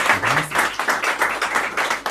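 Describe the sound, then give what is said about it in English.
Audience applause for the event's organisers, a dense crowd of overlapping hand claps that keeps up steadily and fairly loud throughout, with no talking over it. “Can we have a round of applause for our wonderful organisers, please?”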